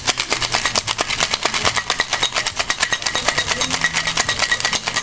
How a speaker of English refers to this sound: I'm going to add the bourbon. Two ounces of bullet rye bourbon. Then I'm going to take the ice. I'm going to shake the tin.